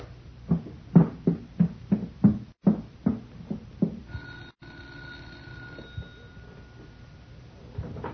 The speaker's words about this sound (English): You fellows start getting ladders, and I'll ring the doorbell.